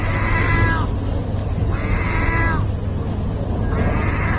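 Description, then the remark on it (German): A seagull in Turkey, standing at a feeding machine for stray cats, gives three drawn-out, cat-like meowing calls, evenly spaced about two seconds apart, each sliding downward in pitch, over a steady rumble of background noise; filmed on a mobile phone. “Eine Möwe, die wie eine Katze klingt?”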